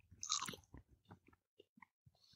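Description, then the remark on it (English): A sharp, loud crunch as a crispy edible cricket is bitten, followed by a handful of quieter, irregular chewing crunches, with no talking. “Genus and species, let's eat this prick. Let's do it. One, two, crunch.”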